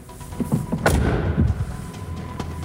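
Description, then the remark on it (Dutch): A car door swings shut with one solid, heavy thud that reverberates briefly, preceded by faint handling clicks and followed by a quiet, low background rumble. “Geluid keer deurtje dicht?”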